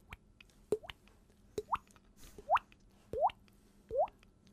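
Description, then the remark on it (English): A series of five hollow, water-drip plops made by tapping a fingertip on the cheek while pushing water out of the mouth, each with a rising pitch, spaced at a steady rhythm of roughly one per second, fairly quiet with no talking. “I take my fingertip and tap on my cheek. And you push the water out.”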